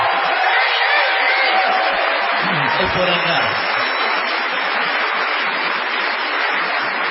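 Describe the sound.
A sustained ovation of dense applause and crowd cheering fills the whole stretch at a steady, loud level, with a brief spoken phrase heard over it.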